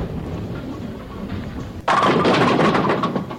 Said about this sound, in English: Susan knocked over 6 pins, leaving 4 pins standing.